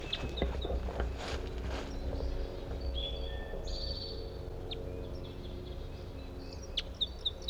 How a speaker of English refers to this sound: I'm gonna try to record a different bird. I think there's a male. The male whose female is caught is over in this other direction here.